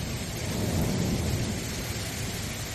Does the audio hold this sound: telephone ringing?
no